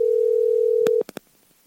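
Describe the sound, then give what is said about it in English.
A steady, mid-pitched telephone tone drones for about a second on an outgoing call to Rob Gargiulo, producer of the Mike Calta Show on 102.5 The Bone, then cuts off and gives way to a few short, quick beeps. No one speaks. “Let's call Rob. I told him I was calling, so let's see if he picks up.”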